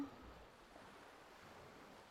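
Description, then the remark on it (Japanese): A soft, steady wash of ocean waves rolling onto the shore, faint and continuous, with no voices. “波音を聞きながらこうやって横になると、なんか眠くなってくるな。波の音がそうさせるんかな。”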